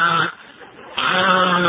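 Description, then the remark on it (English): A person imitates chirping crickets with a nasal, quavering voice: a short burst, a brief dip, then a longer, steady, bleat-like trill that fills the rest of the moment. “But you never heard a better likeness of the cricket sound in your life than that.”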